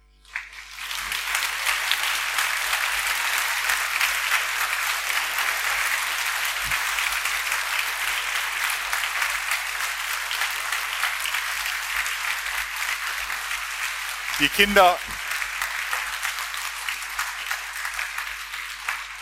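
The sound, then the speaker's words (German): Sustained audience applause from a large crowd at a Christmas nativity play, a dense, steady wash of clapping that holds at an even level throughout, with a brief voice or whoop rising out of it near the end. “Eigentlich hatten wir Applaus erwartet.”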